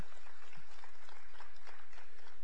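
A crowd claps steadily, a dense patter of many hands blending into a continuous, moderately loud wash of applause with no voices standing out.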